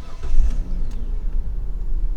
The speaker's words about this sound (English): But now, what happens if I try to start my car with all this on?